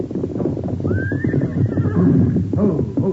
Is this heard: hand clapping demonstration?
no